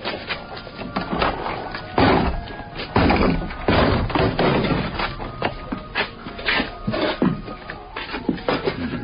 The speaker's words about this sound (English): I need to break down this door. There's someone inside.